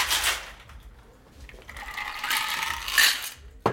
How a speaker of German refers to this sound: Da rühren die Eiswürfel im Drink.